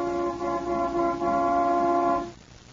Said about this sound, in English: Mary fumbles for time as she wonders how to answer this question, as Claudia Vincent playfully sounds the car horn.